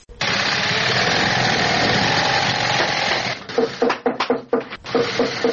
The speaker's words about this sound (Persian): یکی از کارخانه های تولید بود در شهر کابل که کارگرانان با دلسردی تمام و نامید از یک آینده روشن چکش می زنند و چرخ ماشین های بودوزی را به صدا در می آورند.